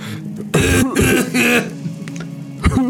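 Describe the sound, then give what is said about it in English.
A loud coughing fit: three harsh, rasping coughs in quick succession, a brief wheezy pause, then one more forceful cough near the end. “Well, I'm glad we went into all of that just for you to cough your lungs out instead.”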